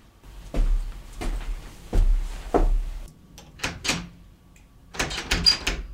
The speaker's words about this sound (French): C'est fermé à clé. Enfin, ouvrez cette porte, qu'est-ce qui se passe ici? Je vous l'avais dit, on est piégé.